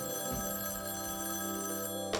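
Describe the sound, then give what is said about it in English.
A telephone rings steadily at 11:30 at night, its bright electronic tones sustained throughout the short stretch, clear with no one speaking over it. “And I answered the phone, and it was a young woman.”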